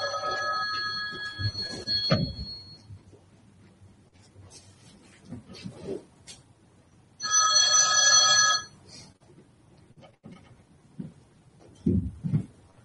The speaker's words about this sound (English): Nice ring. I see this big bell telephone. It's the only one it's got, so...